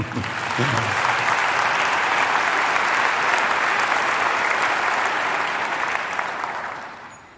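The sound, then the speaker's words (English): An audience at a sermon breaks into sustained applause, clapping to show they have received Jesus, a dense wash of clapping that holds steady for several seconds before tapering off toward the end, with a brief murmur of voices at the start. “A couple of others, have you received him? You can clap if you have.”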